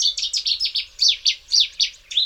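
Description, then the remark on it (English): A loud bird song made of rapid, explosive bursts of sharp chirping notes, repeated in quick succession with short pauses, a Cetti's warbler singing alone with no voices. “definitively identified the Chetty's warbler as the reclusive author of the familiar song.”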